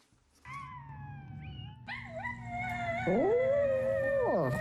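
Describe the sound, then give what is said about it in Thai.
A small dog howls in long, wavering, high-pitched tones, layered with a second overlapping howl as it sings along to a replay of its own voice, played on a smartphone from a sound wave tattoo on its owner's right arm. It is loud, with no talking. “เจ้าพาซี่สุนัขตัวน้อยหอนคลอไปกับเสียงของตัวมันเองที่ดังอยู่บนสมาร์ทโฟนของจูเลน่าผู้เป็นเจ้าของต้นทางของเสียงนี้ไม่ได้มาจากโทรศัพท์นะคะแต่มาจากรอยสักเจ้าบาซี่บนแขนข้างขวาของเธอ”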